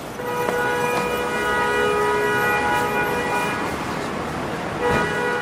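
Busy New York City street traffic fills the scene with a steady roar, while a sustained horn or siren tone blares loudly over it, with a few sharp knocks and clanks breaking through.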